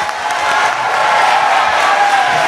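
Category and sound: crowd, audience applause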